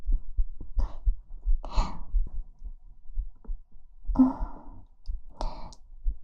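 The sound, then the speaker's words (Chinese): A girl's muffled heartbeat thumps in a quick, steady rhythm throughout, with a few soft breathy sighs drifting over it and no talking. “心跳也变得快起来了。”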